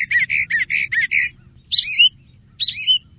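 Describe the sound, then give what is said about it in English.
A mockingbird runs through a rapid series of six repeated chirping notes, then two separate rising whistled phrases, imitating other birds' calls. Clear, with no talking and only a faint low rumble beneath. “A mockingbird might imitate, in succession, birds as different as a bobwhite quail, a chat, a sandpiper, even a cardinal.”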